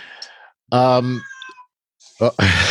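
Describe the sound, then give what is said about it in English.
The speaker's own female cat gives a drawn-out, tonal meow, then a shorter chirp-like cry after a brief pause, followed by a loud, breathy, noisy burst at the end. “somebody's cat. The cat. That's mine. She's up.”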